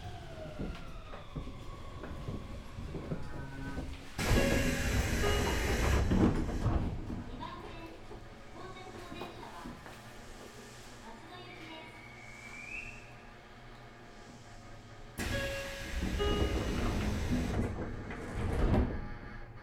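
Train doors on the right side slide open with a loud pneumatic whoosh at Kamagaya Daibutsu station (SL13), then slide again about ten seconds later, over a steady hum of train and station noise.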